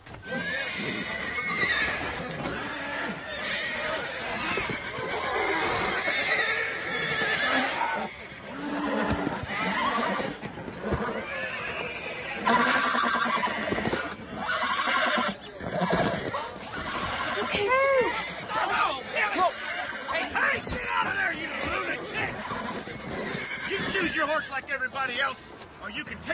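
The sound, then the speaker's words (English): Several horses neigh and whinny repeatedly in a busy, crowded scene at a corral, with hooves clopping and indistinct voices murmuring underneath throughout. “Pick yourself out a hoss.”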